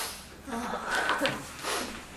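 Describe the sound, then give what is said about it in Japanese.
Wet sniffles from a runny nose, a few short breathy pulls of air clustered together, with a faint background murmur and noise. “鼻かんでもいいから。 めっちゃ鼻が…”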